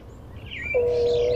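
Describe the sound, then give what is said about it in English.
A mourning dove's soft, hollow coo, played as the dial tone of a public bird-calls phone with a bright canary yellow handset, rises into a long, steady low note and holds to the end, with a faint higher chirp sliding just before it over quiet background hiss. “This is your dial tone. It's a mourning dove.”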